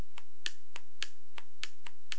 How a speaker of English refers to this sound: Clapping with a chimpanzee.